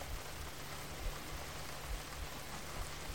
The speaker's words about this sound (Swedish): Vi föreställer oss att vi står utomhus. Vänder ansiktet upp mot himlen och låter de mjuka regndropparna möta ansiktets hud.